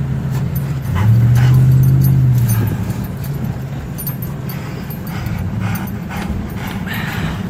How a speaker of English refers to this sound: His cell phone video is through the passenger side window. His brother-in-law is at the wheel. His dog is panting in the back seat. Flames surround them.